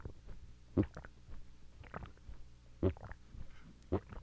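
Someone gulps down water in repeated swallows: three strong, wet, low gulps at irregular intervals, with softer gurgling swallows between them and no talking.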